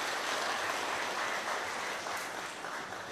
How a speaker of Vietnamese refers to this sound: Lần này quý vị trả lời đúng hết rồi, cho một tràng pháo tay thật lớn.